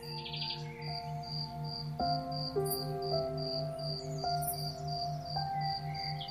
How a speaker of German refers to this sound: Und dieses Mal hörst du das angenehme Geräusch aus unmittelbarer Nähe. Du siehst, wie die Flügel des grünen Insekts heftig zittern, während der Grashüpfer sein Zirpen damit erzeugt. Toll, wie das funktioniert!